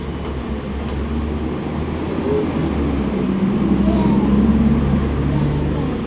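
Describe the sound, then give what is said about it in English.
A bus rumbles with a deep, steady engine drone and road noise, fairly loud, easing off slightly toward the end as it pulls away. “Bye bye, bus.”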